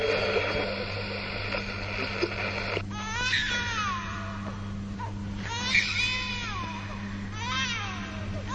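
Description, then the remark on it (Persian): After a burst of crackly, static-filled noise, a newborn baby cries at birth in repeated thin, wavering wails, continuous over a steady low hum. “صدای تولد یک نوزاد و پایان.”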